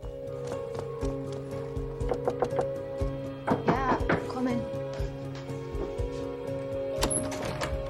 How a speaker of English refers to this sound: She climbs the steps to the property and knocks on the door.